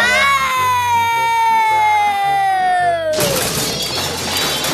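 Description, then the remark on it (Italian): A long descending whistle glides down over plodding low musical notes, then a loud, sustained clattering crash bursts in as someone tumbles into Tigro's storage closet and things tumble and smash, filling the last second and a half. “Finché, con un capitombolo, finì nel ripostiglio di Tigro.”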